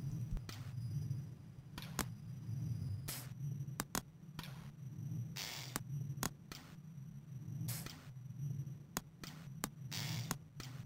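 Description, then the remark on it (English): Small, irregular ticks of slave miners swinging pickaxes into rocks in the Amiga version of a video game repeat throughout, faint, over a steady low droning hum with no voices. “Those little ticks in the background you're hearing are actually the slave miners swinging their pickaxes into the rocks.”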